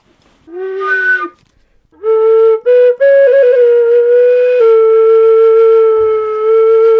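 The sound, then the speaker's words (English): A low whistle in D, made from PVC pipe, plays a short breathy note, pauses, then holds a long sustained melody line with a few quick ornamental flicks and steps between pitches. It is fairly loud, with no voices. “Yeah, PVC low whistle in D, I think.”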